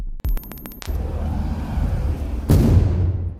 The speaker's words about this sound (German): Er versucht, sie mit einem selbstgebauten Sprengsatz aufzusprengen. Das ist die Explosion, die Max Priworotzki und seine Gemeinde im Innern hören.